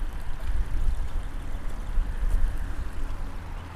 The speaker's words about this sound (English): Is there some big drainage ditch? A culvert, if you will. A culvert. It's pretty. We're in the meadow. We got a little running water.